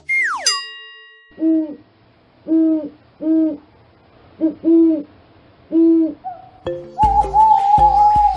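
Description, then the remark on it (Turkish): An owl hoots about six times in a steady, evenly spaced series, each call clear, after a quick falling whistle at the start; a brief tonal jingle follows at the end. “Bu canlının adı baykuş.”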